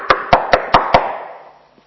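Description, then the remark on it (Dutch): Five sharp, evenly spaced knocks by a jailer on the hatch of a door, loud, each ringing briefly before the sound fades out. No one speaks. “En die avond klopte die cipier op de deur van mij, op de luik van mijn deur. Ik hoorde dit.”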